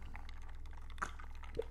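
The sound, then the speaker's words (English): A quiet pour of London Dry gin into a glass, a soft steady trickle of liquid with a couple of small drips or clinks near the end, without any talking. “A little bit of a twist, you know, like having a nice drink. I'm having a gin tonight.”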